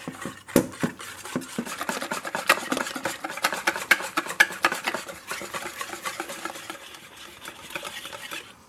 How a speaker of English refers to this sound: Now what you're going to have to do is use your whisk to blend everything mm-hmm. until it's really smooth and frothy.